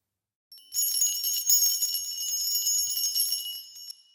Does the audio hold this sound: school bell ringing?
yes